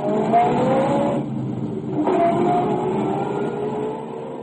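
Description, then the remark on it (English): A car drives to the Mansfield Mercantile Company with a steady, rumbling engine drone and road noise, briefly thinning in the upper range before swelling back. There are no voices. “I drove to the Mansfield Mercantile Company and nothing flat.”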